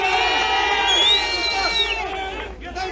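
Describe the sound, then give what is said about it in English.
A large crowd at a night-time anti-immigration protest outside Finglas Garda station in Dublin, Ireland, cheers and shouts together, many overlapping voices forming a loud, sustained roar with rising yells poking out, easing slightly toward the end. “That is what we hear to the cheers there at the end of the anti-immigration protest.”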